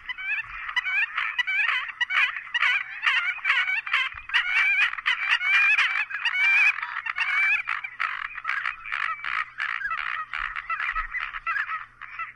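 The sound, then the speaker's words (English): American coots, noisy gregarious birds, give a steady stream of loud crackling, grunting, croaking calls, rapid and repetitive, continuous throughout with no talking. “They are noisy, gregarious birds whose presence is often announced by loud crackling, grunting, and croaking calls.”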